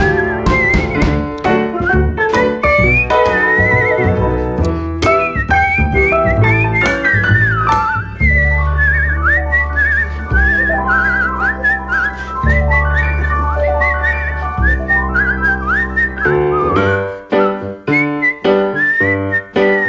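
A bright whistled melody carries a lively tune over steady instrumental backing, with quick notes and slight vibrato, loud throughout, with no talking.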